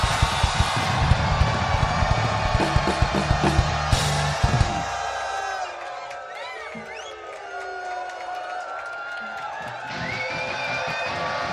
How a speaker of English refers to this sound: we've been making a tour vlog, and we've been getting every city to scream as loud as they can. So when I say 3, 2, 1, go, I'm gonna get you to scream, and I'll tell you if you beat the other cities or not. Are we ready, Pink Pop? 3, 2, 1, scream!